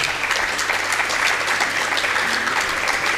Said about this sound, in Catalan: Un aplaudiment per a ella.